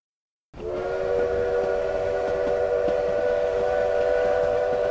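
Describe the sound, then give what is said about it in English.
A locomotive whistle, no more than a mile away, blows one long, sustained chord in sleety drizzle, starting abruptly after a brief silence and holding steady and loud to the end, with no voices present. “Again the whistle blew.”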